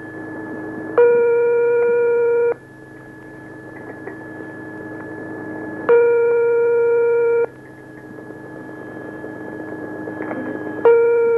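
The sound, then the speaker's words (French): A telephone ringback tone sounds from the caller's end of an outgoing call to a listener, allowed four rings at most: three steady electronic rings about five seconds apart, each lasting over a second, over a faint constant line hum, with the last cut off. “11 568, 4 sonneries maximum”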